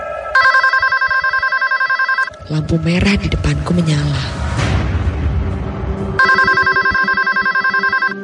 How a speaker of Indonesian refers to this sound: Sesekali dering telepon terdengar nyaring dari arah depan.